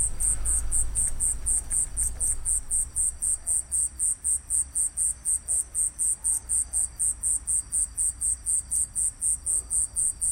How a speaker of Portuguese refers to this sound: Sabe-me bem este quase silêncio líquido e transparente que me deixa ouvir a calma. O vento entre as folhas das árvores responde e depois ao fundo um rumorejar suave. Aqui está bom, um carro passou, pausa, os grilos voltaram.